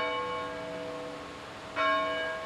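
Large tower bells at Knox College in Galesburg ring to mark the start and finish of a class period, rich, sustained tones, one chime hanging in the air before a fresh strike swells louder near the end. No voices are present.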